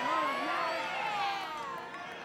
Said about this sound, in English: For one thing, the … are our heroes. Can we get a … from the crowd?